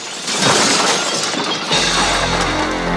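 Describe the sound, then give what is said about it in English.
Glazed doors shatter in a loud, sustained crash as a security man is punched and hurled through them, with bright tinkling shards spilling through the burst before a low rumbling tail carries on to the end. No one speaks. “The security man shoves Lincoln, so he punches him and hurls him through the glazed doors.”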